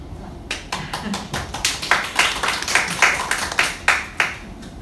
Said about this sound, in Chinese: 讲刚才讲经讲到这么好都不会拍手，讲到这个就会拍手，那代表是要英文要多讲一点啊。